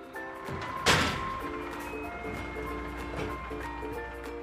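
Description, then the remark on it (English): A garbage truck pulls up on bottle day to collect bottles and trash, with a steady engine rumble and a tinkling musical jingle playing, broken early by one sharp metallic bang; no one speaks. “The garbage truck is here.”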